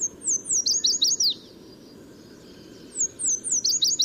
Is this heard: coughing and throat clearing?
no